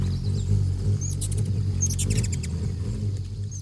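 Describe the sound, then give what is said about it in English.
A ruby-throated hummingbird zips past in late April in the Northeast, then hovers by scarlet flowers, a low steady wing hum with two quick bursts of thin, high squeaky chirps. “It must be a ruby-throated hummingbird, the only hummingbird that nests in the eastern states.”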